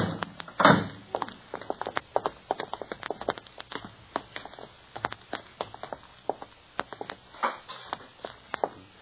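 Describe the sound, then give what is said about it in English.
A heavy car door thuds shut near the start as Perry Mason and Private Detective Paul Drake get out of Mason's car in front of Mrs. Dooley's rooming house in Smithville, mid-morning, followed by a long run of light, irregular taps and scuffs like footsteps on pavement. Nobody speaks. “As in the town of Smithville, Perry Mason and Private Detective Paul Drake get out of Mason's car in front of Mrs. Dooley's rooming house.”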